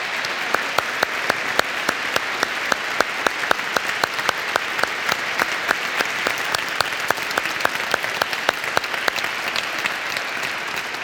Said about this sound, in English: So let's give the choir a round of applause.